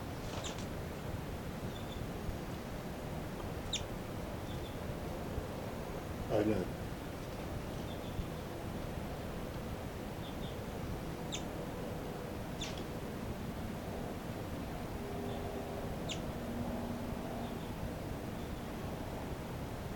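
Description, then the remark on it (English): Short, high chirps from a pet bird called 5'9" as he flies around the cell sound every few seconds, spaced irregularly over a steady hiss of background noise. Between them come a few fainter, softer peeps. “This is the calls of 5'9" as he flies around the cell.”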